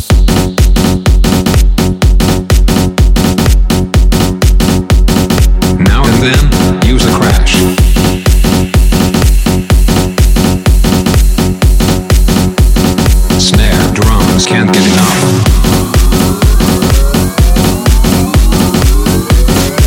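Loud, dense electronic music built from an imported loop, with heavy pulsing wobble bass, steady pounding military drums, a clap, and sweeping, distorted synth tones that rise and warp, filling the whole mix without any voices.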